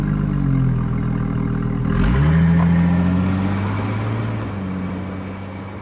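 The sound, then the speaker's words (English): A car engine idles with a low rumble, then revs up sharply and settles into a steady drone as the car pulls away, its sound easing off slightly toward the end. No one speaks. “They both leave and the car drives away.”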